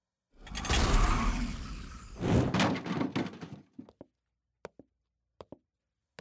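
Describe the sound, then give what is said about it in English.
A heavy door swings open with a long, loud scraping rush lasting a few seconds, followed by a scattering of sharp clicks and knocks as it settles. “Everything I want is on the other side of this door.”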